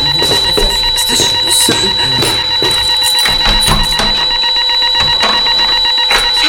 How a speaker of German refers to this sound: Als George sich über eine Glasvitrine beugte, ging plötzlich der Alarm los.